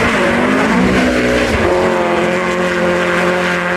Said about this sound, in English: Anyway, we raced in the snow, and I remember skidding along the snow on purpose, cornering in a light snow.